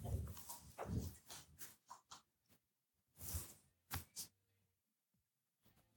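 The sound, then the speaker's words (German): A dog, Paula, barks in a string of short, irregular bursts, some clustered together and others spaced apart, with no talking and quiet pauses between the barks. “ist so lustig, bellt die Paula.”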